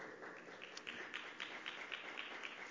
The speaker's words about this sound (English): Stand up. Let's give the Lord a good hand and clap. That's so good.